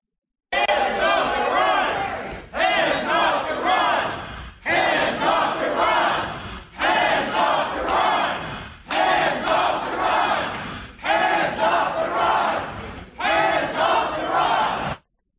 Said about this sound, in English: I think it was the same rally, and it's not the cut I was thinking, but the same rally, they were teaching the crowd how to say death to Israel. And then it evolved into death to America.